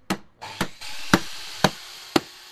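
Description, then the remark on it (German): Five sharp hammer blows strike wood at a steady, even pace, each a loud crack that fades quickly, as a carpenter and a colleague take an old sofa apart in his small workshop in Ankawa, the Christian district of Erbil, Iraq. No one speaks. “Ein Schreiner, der gerade mit einem Kollegen ein altes Sofa zerlegt.”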